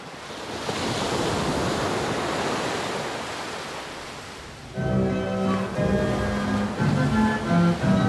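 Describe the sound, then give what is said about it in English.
A broad, hissing wash of ocean surf hitting the shore at Coney Island, New York City, swells and slowly recedes for several seconds, then a bright, buzzing harmonic sound with shifting tones cuts in over the continuing rush of waves. “he took an audio journey and the subway to where the surf hits the shore.”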